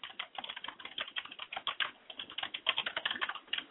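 Rapid, steady typing on a computer keyboard, a dense stream of light clicks and taps with brief pauses, moderately loud, with no voices.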